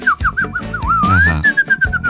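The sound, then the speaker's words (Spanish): A person whistles a bird-like tune as an insult: a few quick warbling chirps, then a long rising glide and several held notes, clear and fairly loud over a low, thumping background. “Y tú dices, ah, el pajarito.”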